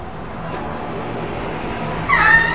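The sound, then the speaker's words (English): A long-haired cat being groomed gives one short, fairly loud meow near the end, rising out of a steady background hiss and rustle, with no one speaking. “I've never seen a cat with hair as long as this, have you?”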